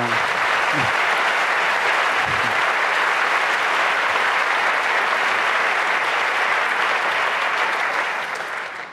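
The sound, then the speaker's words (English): Sustained applause from a large audience at a congress, a dense steady wash of clapping that stays loud for the whole stretch, with a couple of brief voices or cheers near the start. “Yeah, and you know, if you start lists, just another clap to you, the one we forgot to mention.”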